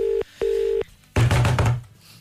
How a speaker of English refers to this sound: That is a cool ringtone. That's ringing cooler than any other ringtone I've heard today. They're not answering.